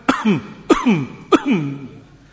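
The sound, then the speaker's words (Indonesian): Three quick, forceful demonstrated throat clears in a row, each a sharp burst followed by a gruff, voiced rasp, evenly spaced, with no talking. “Di antara lain yang beliau sebutkan dari talbisnya iblis, kencing itu dengan dia berdehem.”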